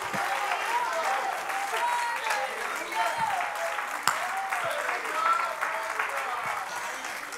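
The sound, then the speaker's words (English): An audience claps hands to praise the Lord and Jesus at a church service, in a steady, dense wash of applause, with scattered cheers and voices rising through it, holding fairly loud and even for the whole stretch. “Somebody clap your hands unto the Lord and just praise the name of Jesus.”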